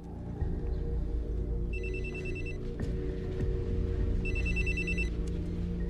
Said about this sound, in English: We have to record the call. Stand by. Dina dials Baruse on a special monitored cell phone.